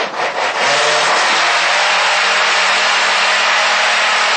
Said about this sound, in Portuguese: Vou ter que ajudar um pouquinho, porque eu não tenho um liquidificador tão potente.